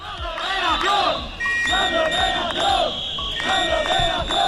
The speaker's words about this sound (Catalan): Són aquests els crits i també les sirenes de centenars de gent de la policia local de Palma que s'han manifestat avui de matí. Han recorregut la distància que separa el quarter de Sant Ferran fins a arribar a Cort.